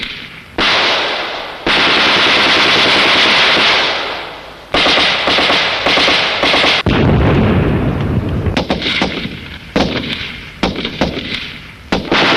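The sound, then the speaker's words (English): Loud battle sounds with sustained bursts of gunfire, sharp repeated shots and heavy booming mortar blasts, dense and chaotic throughout, ending in scattered cracks of rifle fire, as communist forces shower a South Vietnamese forces headquarters on an airfield perimeter with rockets and mortar bombs and troops fight the VC. No one speaks. “The communists had showered the HQ and surrounding area with rockets and mortar bombs.”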